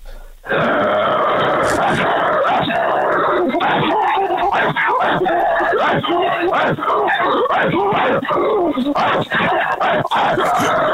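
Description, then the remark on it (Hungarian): A person imitates a rottweiler attacking first, voicing loud, rough growls, snarls and guttural barks in a continuous, aggressive stream for about ten seconds. “Tehát a roti támad először, jó?”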